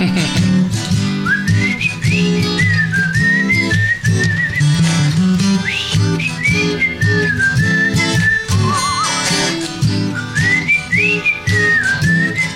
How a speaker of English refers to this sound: I got to be careful because I got a whistle on this part. And it's hard to whistle when your lips are all dry.